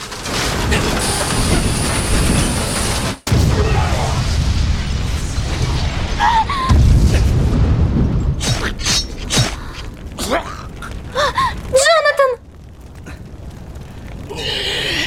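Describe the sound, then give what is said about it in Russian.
A ship breaking apart in an explosion: loud, continuous rumbling with groaning, creaking metal and a run of sharp bursting cracks toward the end, with no voices. “Он начинает взрываться.”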